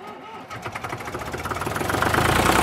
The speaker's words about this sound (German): Ihr seid unterwegs mit maximal 17 km/h. Das ist unser schnellster Traktor.